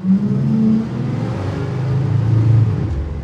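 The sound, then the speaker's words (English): A bus engine rumbles low and heavy, its deep drone holding steady while the pitch dips and rises a little as it runs. Loud and continuous, with no voices. The bus recording is played without EQ, so the low rumble is left in. “Here's the bus with no EQ.”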